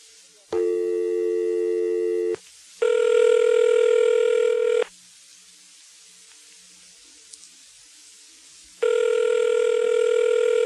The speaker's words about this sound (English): Somebody knows Paul Mac. They're smart. They don't want to answer the phone.